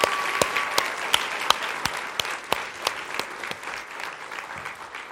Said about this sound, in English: All right, guys, I'm impressed. Let's give these youth another round of applause. That was great.